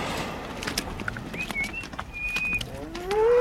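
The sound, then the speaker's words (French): A cow lets out a loud moo near the end, rising out of quiet outdoor farm ambience with faint bird chirps and light shuffling beforehand. “Là, la vache rouge là, qui lève la tête, celle-là, c'est la vache de la brique.”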